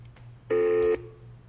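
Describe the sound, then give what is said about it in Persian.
A single telephone tone sounds for about half a second, loud and steady, over a faint low background hum, then cuts off abruptly. No one speaks. “تلفن ها لطفا قطع کنین،”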